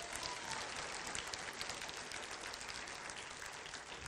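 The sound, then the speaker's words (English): A crowd claps steadily, a dense, even wash of many hands clapping at once that holds at a fairly loud level for about four seconds without any voices. “Come on, you ought to clap for that today.”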